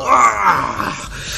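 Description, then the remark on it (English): A person's voice imitates a cat, badly sliced in a game, letting out a loud, drawn-out howl, a single wavering, groaning cry that slowly fades over about a second. “Alright, you... slice him badly, and you hear him howl out.”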